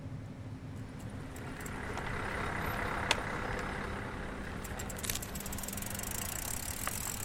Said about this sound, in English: We're at a small ferry terminal, it's early in the morning, and we find Megan Hakkinen sitting serenely amongst the trucks waiting to board.